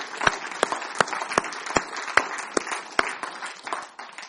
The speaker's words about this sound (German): Das ist, wow, komm, da gibt man einen Applaus. Das ist gerade genau richtig an der Stelle hier.